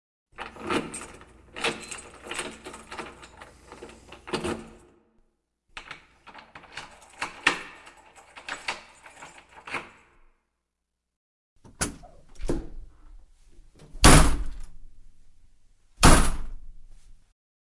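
An apartment door is unlocked and opened from the building's landing: several seconds of keys jangling and rattling in the lock, a pause, then a latch click and two loud thuds as the door swings and shuts.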